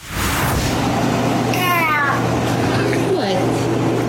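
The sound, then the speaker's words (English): A cat meows twice, a longer drawn-out call followed by a shorter one, with a clipped vowel shape close to the word "cow." A steady low hum runs underneath throughout. “Instead of meow, it clearly says cow.”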